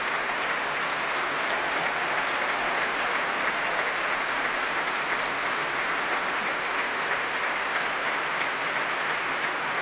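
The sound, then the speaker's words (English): Sustained applause from the Proms audience and orchestra at the Royal Albert Hall after a performance by violinist Daniel Hope, a dense, even wash of clapping at steady loudness for the whole stretch, with no voices speaking over it. “Wonderful performance, warmly appreciated here by the Prommers at the Royal Albert Hall.”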